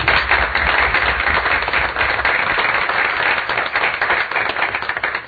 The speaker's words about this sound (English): It was a fantastic meeting, and I really appreciate what you have done, and I think the Assembly needs to applaud you. Yep. Here, here.